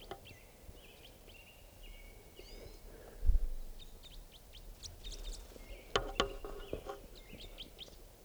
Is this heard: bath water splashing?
no